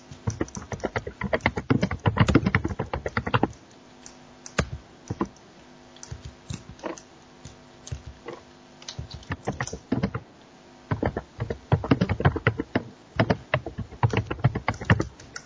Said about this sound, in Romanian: Mamă, dar cineva bate de nu se... Bate în dușmănie în tastatură. Cu laptop și de aceea.